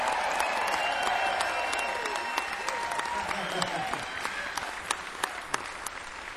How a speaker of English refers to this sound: So y'all, if y'all could help me, give these guys a round of applause as you walk in.